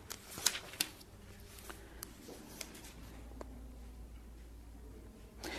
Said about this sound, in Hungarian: Ezékiel próféta könyve 14. fejezetéhez lapozzunk, akinek van Bibliája.